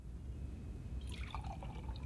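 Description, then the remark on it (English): A doctor pours tea into a cup in a ready room, a soft splashing gurgle about halfway through that rises slightly in pitch as it fills, heard fairly quietly over a steady low background hum. “smiles quizzically and pours a cup of tea.”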